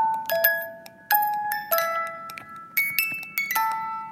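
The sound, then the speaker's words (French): A tiny music box plays a slow, tinkling melody, its bright metallic plucked notes ringing out one after another and fading, with no voices over it. “C'est une toute petite boîte à musique et qui va faire ça?”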